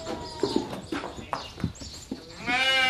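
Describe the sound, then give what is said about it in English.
A few scattered hoof taps and scuffs on a hard floor, then a white sheep, just shorn with clippers, lets out one loud, wavering bleat at the end. “and then just gradually a sheep is emerging from all that fluff. A beautiful white sheep with a little bit of pink showing through.”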